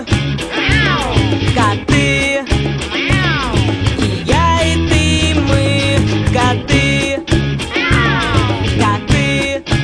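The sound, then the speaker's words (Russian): Drawn-out cat meows rise and fall several times over loud, busy music, with a few gliding calls standing out above the steady beat. “Уважаемая публика, обращаю ваше внимание, что кот — древнее и неприкосновенное животное.”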